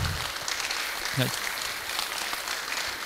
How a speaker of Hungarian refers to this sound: És tapsoljuk meg szép sorban vendégeinket